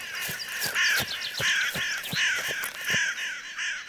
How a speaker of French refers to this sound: Corbeau, corbeau, soudain.